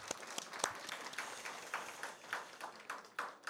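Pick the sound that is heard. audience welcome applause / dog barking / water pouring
audience welcome applause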